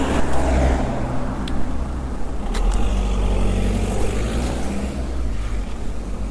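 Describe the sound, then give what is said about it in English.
A car travels along a road that a pedestrian is waiting to cross in dimming light, its low engine rumble and broad tyre hiss holding fairly steady and loud throughout, with a few faint clicks and no voices. “That car gone, feels pretty quiet.”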